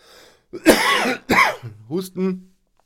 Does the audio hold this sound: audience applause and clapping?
no